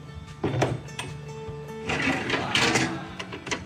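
A boat's cabin door swings shut with a couple of wooden clunks, followed by scraping and metallic rattling as a padlock is fitted and snapped locked on the cabin door. No voices are heard.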